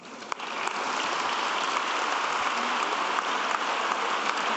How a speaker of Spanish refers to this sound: Muchos aplausos también para recibirle.